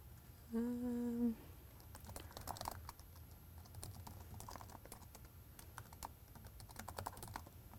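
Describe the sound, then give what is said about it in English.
Rapid clicking of keys on a computer keyboard as code is typed runs throughout, irregular and fairly soft. Near the start comes a short, loud electronic beep with a steady, low, buzzy tone. No one speaks. “Oops, I'm sorry, my fingers were on the wrong keys there.”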